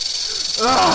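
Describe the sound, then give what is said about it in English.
Diamondback rattlesnakes give a steady, dry rattling buzz with a hissing edge that runs unbroken through the whole second, while a voiced sound briefly swells over it near the end. “Snakes? Hell, there might be like a dozen big old diamondback rattlers in there, just waiting for me to stick my hand in.”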